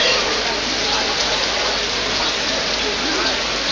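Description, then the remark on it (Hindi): Steady rain falls continuously while people sit sheltering from it, a dense, even hiss of drops pattering on surfaces, holding the same loudness throughout with no pauses or other sounds standing out. “आज तो पानी से बचने के लिए यहां बैठे हैं,”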